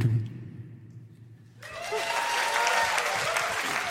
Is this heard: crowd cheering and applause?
yes